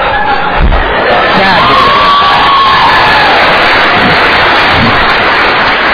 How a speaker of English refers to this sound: Now the question is, I'm going to actually play a real tenor in a minute, and then you'll stop clapping for me.